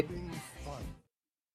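Two quick, harsh coughs from a person who has COVID follow each other in about a second, fairly loud, then silence.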